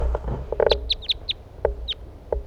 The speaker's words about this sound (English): Wild birds.